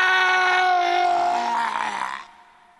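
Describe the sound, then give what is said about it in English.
One loud, sustained scream holds for about two seconds with a strained, slightly wavering pitch, then breaks off abruptly into quiet. No one is speaking. “I can't even begin to invoke the dead with all that screaming.”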